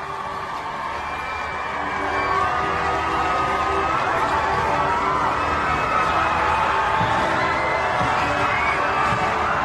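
crowds cheering

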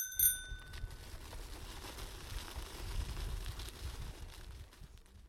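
bicycle bell ringing

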